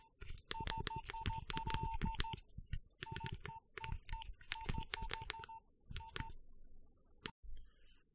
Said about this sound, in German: Ja, den Ton kennen vielleicht viele von euch. Das war natürlich eine SMS auf einem Nokia-Gerät, genau auf einem 6210.